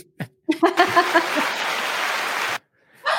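A dense burst of applause with many overlapping claps, like a crowd, lasting about two seconds before stopping abruptly. A few short cheering tones sound at its start, and brief speech comes before and after.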